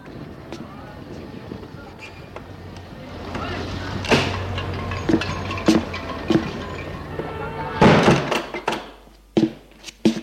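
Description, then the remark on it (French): Outdoor traffic rumble with a few sharp knocks and clatters, then a door shuts with a solid thud near the end and the street noise drops away to a quieter interior, as people enter a small apartment building off a courtyard on rue Bouteille. “Ils entrent dans l'immeuble.”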